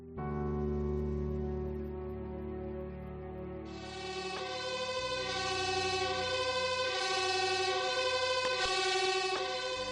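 A fire truck siren blares loudly and continuously for about ten seconds, its piercing tone shifting partway through, with no voices heard.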